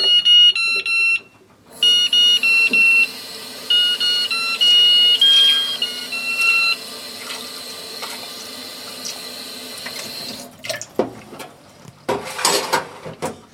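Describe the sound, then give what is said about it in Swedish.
A musical egg timer beeps out a thin, high electronic melody in short stepped notes, soon joined by the steady rush of running cold tap water as the timer and a real egg are rinsed after boiling; the tune stops and water splashes briefly. “Sen för att behålla batterifunktionerna så där, så ska man spola både det riktiga ägget och melodiägget med kallt vatten i en stund, och då ska melodiägget sluta spela sen när efterkokningen är klar.”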